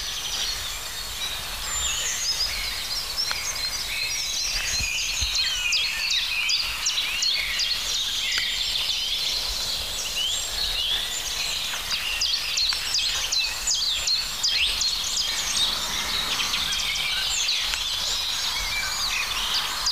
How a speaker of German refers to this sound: Da wird die Amsel halt eine kurze Pause gemacht.